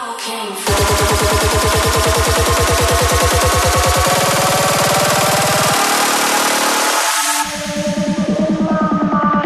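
A car engine starts up and runs loudly, its low rhythmic firing pulses steady, then shifting in pitch as it revs and drops back to a rumbling idle, with no talking.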